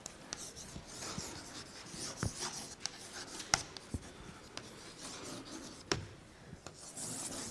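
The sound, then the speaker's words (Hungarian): Steady scratchy strokes of writing an equation on a board, broken into its components, with a few sharp taps as each mark begins, continuing for several seconds with no one speaking. “Kollégák, először komponensekre bontva fölírom ezt az egyenletet, tehát ez három skalár egyenlettel ekvivalens, és pedig az x, y-ra és z-re.”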